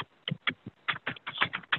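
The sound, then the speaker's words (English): Rapid, uneven typing on a computer keyboard with firm, clacky keystrokes arriving in quick bursts, fairly loud, with no voices over it. “Yeah, I think the heavy typing is back.”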